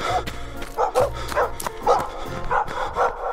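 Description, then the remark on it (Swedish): Several aggressive dogs bark in quick, overlapping bursts, loud, with a low rumbling growl underneath and a yelp or two mixed in. “om han bara inte hade behövt springa 1,5 kilometer åt fel håll för att han blev jagad av några väldigt aggressiva hundar.”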